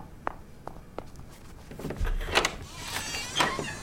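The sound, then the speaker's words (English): A few quick footsteps approach, then a door is unlatched and pulled open with a rattle, a dull thump and a brief scraping creak as someone answers it, with no talking. “Now answer the door.”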